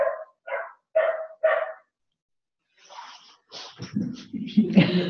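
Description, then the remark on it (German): A dog barks in the background four times in a quick, even rhythm, moderately loud, followed by a stretch of muffled, jumbled noise that may include voices. “und wir auch gerade einen bellenden Hund im Hintergrund haben.”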